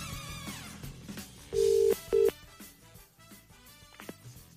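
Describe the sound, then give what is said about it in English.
A phone ringback tone from an outgoing call sounds once as a steady double burst, two short buzzing pulses in quick succession, fairly prominent over quiet background music, with no one talking. “Okay, let me call my pickle person.”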